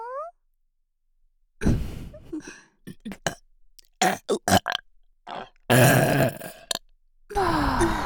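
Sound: burp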